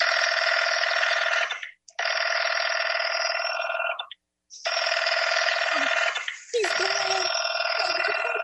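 A telephone line rings repeatedly, each loud, buzzy burst lasting a couple of seconds with short silent gaps between. It sounds like it's coming through an earpiece.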